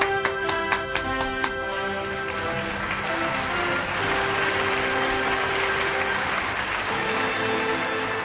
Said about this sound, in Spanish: Ahora me da vergüenza. ¿El que te da vergüenza? Todo esto. ¿Por? La música, los aplausos.